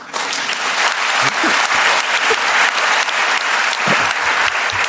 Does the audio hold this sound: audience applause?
yes